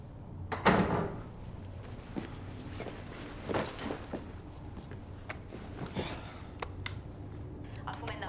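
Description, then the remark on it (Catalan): A door opens with a loud thump near the start as someone enters a house in the evening, followed by scattered footsteps and small knocks and clicks as someone moves around indoors. “Entra a casa al vespre.”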